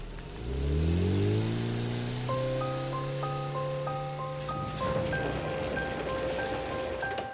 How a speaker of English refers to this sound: I sat there looking out onto the falling rain as a small car disappeared into the distance.